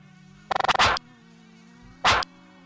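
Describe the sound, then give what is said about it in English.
A faint, steady mosquito buzz from a video game about a zombie virus hums throughout, interrupted by a quick run of sharp clicks and two loud, brief hissing spray bursts. No one speaks. “A zombie virus has spread all over the world. Mosquitoes”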